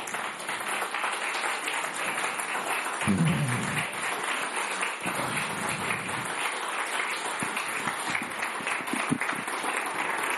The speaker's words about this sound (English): Okay, let's give God a clap praise. Let's give God a glory. Come on, give glory to God.